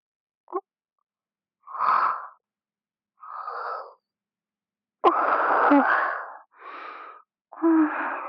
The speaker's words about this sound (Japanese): またあくびが出て。まだ全然眠くないですから。